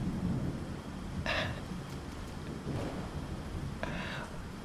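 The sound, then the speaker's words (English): Low, rolling thunder rumbles steadily for several seconds, with a soft rain-like hiss and a couple of brief crackling bursts over it. No one speaks. “Well, besides that, but that's just the clouds clapping for us, honey.”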